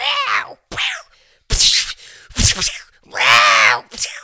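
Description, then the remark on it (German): A person vocally imitates cats fighting, reproducing cat noises heard from their garden: a series of drawn-out, wavering yowls and moaning wails with sharp hissy bursts, loud and pitched high, broken by short pauses. “Und vorgestern war das, glaube ich, habe ich bei uns aus dem Garten, habe ich so Geräusche gehört, Katzengeräusche.”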